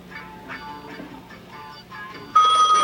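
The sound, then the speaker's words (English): A telephone bell suddenly rings out loud near the end in a bar, cutting in over a murmuring, busy background of muffled, tonal sounds. “Marvin on the phone. Harry hurries over and takes the receiver from the waiter.”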